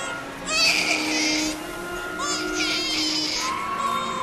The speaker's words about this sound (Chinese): 哎呀，这是哪一家的小宝贝哭得这么惨啊？